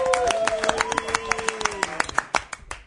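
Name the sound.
audience clapping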